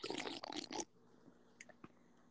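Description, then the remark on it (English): A loud slurping sip of root beer, a rough burst of noisy sucking lasting under a second, followed by near silence with a few faint clicks. “And don't forget about the sip.”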